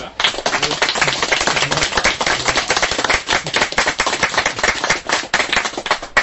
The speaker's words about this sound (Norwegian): Vi må da gi en applaus til deg som har holdt kursen, altså. Bra!